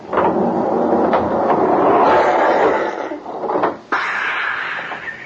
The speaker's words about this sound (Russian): дернул за веревочку, и открылась дверь центрального входа в Кощеево царство.